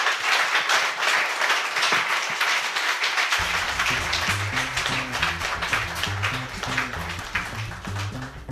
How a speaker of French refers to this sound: On peut l'applaudir. C'est vraiment très chouette. Merci.